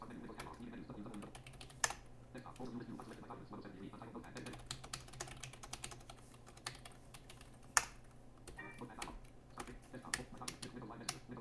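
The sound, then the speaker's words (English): Steady typing on a Logitech S510 wireless computer keyboard driving an AMD 64 4400 dual-core computer: a quick, uneven stream of crisp key clicks with a few louder strikes, over a faint low hum. “It is a Logitech S510 wireless keyboard, which I got 2 weeks ago.”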